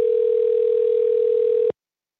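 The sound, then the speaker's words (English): A steady, mid-pitched electronic telephone ringing tone, as heard when placing a call to a company, sounds clearly for under two seconds and then cuts off into silence. No one speaks. “We also called them to ask what's going on.”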